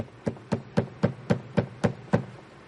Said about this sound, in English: Next morning, there was a terrible knocking on the door.